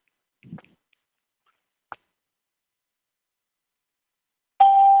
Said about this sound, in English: What we're doing is we just turned off the entry and exit chimes so we don't get interrupted. The way the conference line works is when somebody calls in, we hear a ding, and when they hang up, we hear another kind